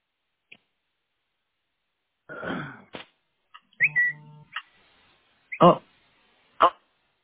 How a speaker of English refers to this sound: I heard your whistle coming. That must be your text notification.